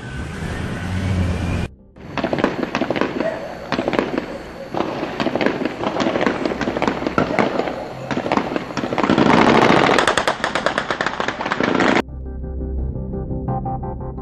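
Rapid bursts of gunfire crackle for about ten seconds on Avenida Recife, where two cars were set on fire and police were running, loud and dense with overlapping shots, starting abruptly and cutting off sharply, then leaving a low rumble behind.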